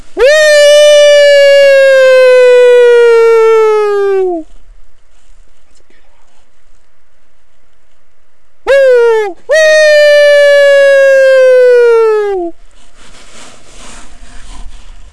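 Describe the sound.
A person mimics a low wolf howl: a long, steady, loud wail that sags downward at the end, then a short yelp and a second drawn-out howl falling away.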